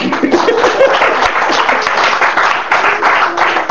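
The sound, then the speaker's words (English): An audience claps steadily and loudly for a few seconds, a dense crackle of many hands, with a few voices calling out beneath the applause. “If you want to clap, clap.”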